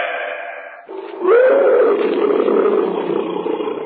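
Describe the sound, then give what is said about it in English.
A tiger roars loudly in the jungle, a deep rising growl that swells after a brief rumble and holds for a few seconds before fading slightly, with no talking over it. “A cat. Probably a tiger somewhere in the jungle.”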